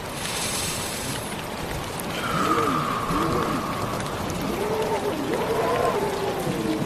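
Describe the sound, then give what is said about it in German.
Steady rain with wind hisses continuously throughout, brightest at the start, with a soft voice speaking over it in the second half and a faint sustained tone drifting in the background. “5 tiefe Atemzüge, um die klare, reinigende, feuchte Luft einzuatmen und allen Ärger und alle Sorgen und alle Belastungen aus deinem Körper hinauszuatmen, in den Wind, in den Regen.”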